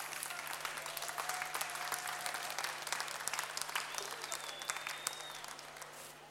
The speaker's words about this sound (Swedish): Stor applåd!